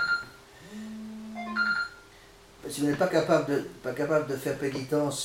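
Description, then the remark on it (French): A mobile phone rings with a steady electronic tone lasting about a second, followed by a short higher blip; a man then begins talking as the ringing stops. “Attendez, j'éteins mon téléphone, j'ai oublié d'éteindre.”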